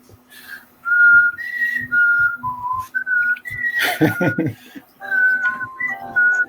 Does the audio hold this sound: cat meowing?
no